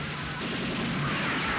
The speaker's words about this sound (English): Guards shoot at them from across the studio. Everyone ducks. Richard stands up and fires back, killing the guard.